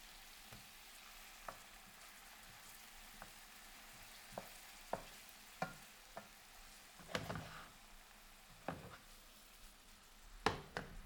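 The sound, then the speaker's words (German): Garlic sizzles steadily in a hot pan while a wooden spoon scrapes and stirs, making irregular knocks and scrapes against the pan, loudest near the end. No one speaks. “Ich nehme den Holzlöffel und rühre den Knoblauch unter.”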